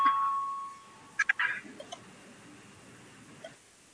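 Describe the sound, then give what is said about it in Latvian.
A brief electronic chime of a parliament voting bell rung before a vote on a proposal: a steady tone fades out at the start, followed by a few quick bright tonal bursts, then quiet hum. “Lūdzu zvanu, balsosim par 41. frakcijas saskaņu iesniegto priekšlikumu.”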